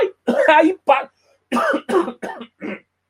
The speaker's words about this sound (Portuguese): Aí voltou a tosse aí, peraí.